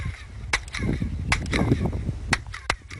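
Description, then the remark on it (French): Sharp handclaps at a pyramid ring out at uneven intervals, each answered by a brief, bright echo off its stone steps, which were built to cause sound diffraction, over a low rumbling murmur of background noise. “La pyramide a été construite pour provoquer une diffraction du son.”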